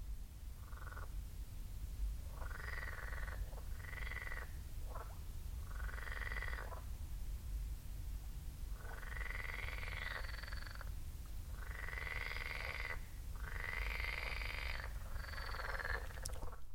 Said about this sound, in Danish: En flok støjende frøer ved en sø på Nordsjælland.